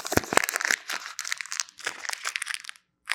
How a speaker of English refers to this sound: Oh, it is no longer crisp. It is no longer brand new. It's all crumpled and jumbled up. Would you want this crumpled up, jumbled up $50 bill?